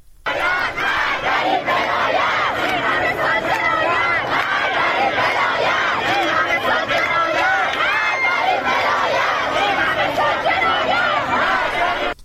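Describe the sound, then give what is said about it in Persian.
A large crowd of protesters chants and shouts freedom slogans together while burning their headscarves along with pictures of Ayatollah Khamenei, a loud, continuous roar of many voices with rhythmic rising calls throughout. “ویدیوهایی منتشر شده که نشون میده معترضان روسری‌های خودشون رو به همراه عکس آیت الله خامنه ای به آتش میکشن و شعار آزادی میدن.”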